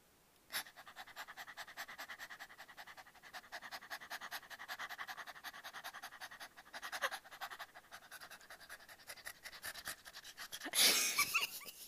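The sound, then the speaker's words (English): A person imitates a dog panting, producing rapid, steady breathy huffs for about ten seconds, ending with a louder burst of breath. “Yeah, you make me pant like a dog because you're so hot.”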